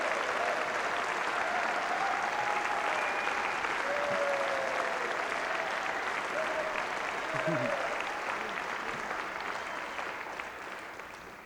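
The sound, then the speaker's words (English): Sustained applause from a large audience at a live show, a public round of applause for Margot Blevin, steady and dense for several seconds before tapering slightly at the end, with faint voices and whoops mixed into the clapping. “and she's a wonderful boss, and I think that she deserves a public round of applause, Margot Blevin.”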